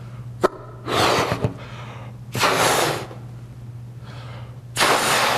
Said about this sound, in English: And so we think about this as I blow up this balloon, we'll see how this works.